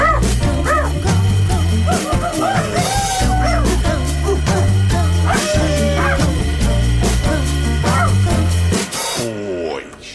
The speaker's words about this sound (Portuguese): Quantos ladraram?